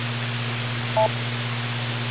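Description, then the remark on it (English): A single short electronic beep, a two-pitch tone lasting about a tenth of a second, sounds over a steady background of hiss and low hum. No one speaks. “wait for the beep.”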